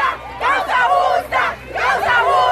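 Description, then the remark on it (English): Hundreds of women activists wearing green scarves cheer and shout in loud, high-pitched bursts as a tribunal of nine judges in Colombia votes to lift limits on abortion, with surging waves of voices rising and falling over a few seconds. “hundreds of women jumped up and cheered as the tribunal of 9 judges voted to lift limits on abortion.”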